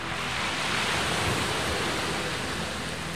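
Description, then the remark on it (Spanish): A steady, full roar of surf, like waves washing continuously onto the shore of a brick-coloured sea, even in loudness throughout, with no voices. “Solo suena como el mar, pero puede ser que no sea.”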